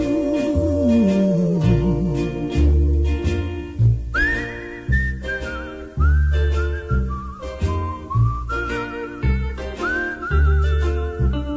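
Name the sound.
whistling a tune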